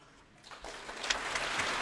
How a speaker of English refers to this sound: And applause as the players rise to their feet for the entry of Valery Gergiev, rejoining the National Youth Orchestra of the United States of America for this Proms performance of Shostakovich's Symphony No. 10.